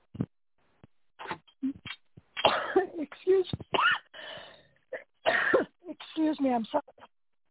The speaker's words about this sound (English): Excuse me, I had to cough there. And I just got a tickle in my throat.